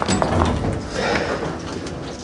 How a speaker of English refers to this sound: Now, Lucy gets into an elevator and hits the ground level button. Jenna stops the closing door and joins her.